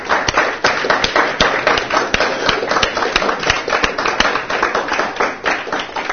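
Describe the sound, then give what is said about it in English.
A seminar audience claps steadily in a round of applause for a man asked to stand up, many hands producing a dense, continuous patter of sharp slaps with a few louder individual claps standing out, sustained at an even volume throughout. “and embarrass him, and everyone let him have a round of applause for...”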